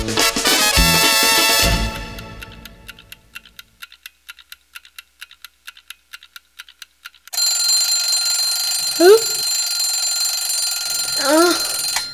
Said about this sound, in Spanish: El despertador. Claro, lo había yo puesto a las 5 de la mañana.